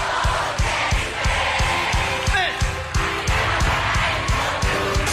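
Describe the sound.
A large crowd of children sings together in a loud, continuous chorus over a steady, thumping beat, voices blending into a dense wall of sound.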